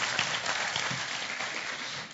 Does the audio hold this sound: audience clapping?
yes